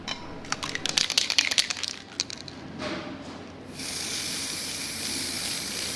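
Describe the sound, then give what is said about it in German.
Quick rattling clicks and short bursts give way to a steady, bright hiss of spray paint through a four-colour stencil, applied layer by layer, at the Kronschütte in Luzern. The hiss runs unbroken for the last couple of seconds. No voices are heard. “Das ist so eine Sprühschablone mit 4 verschiedenen Farben.”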